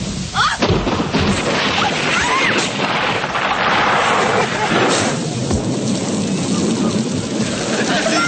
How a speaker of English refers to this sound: Hey, it's a storm. Just a little storm?